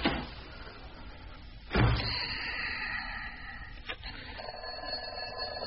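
door closing

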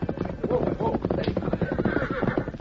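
horse hooves clip-clopping

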